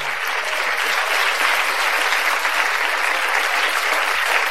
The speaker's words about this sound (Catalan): Bravo! I així acaba aquest emocionant número de Doma. Un fort aplaudiment!